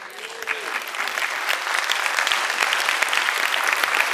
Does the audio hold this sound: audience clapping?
yes